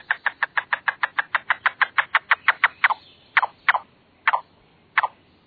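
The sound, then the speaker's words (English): A yellow-billed cuckoo calls with a fast, wooden clucking series that slows into a few drawn-out, spaced notes near the end, with no other noise. “Yellow-billed cuckoos, one of the few birds that eat tent caterpillars.”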